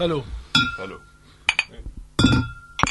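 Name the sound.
glasses clinking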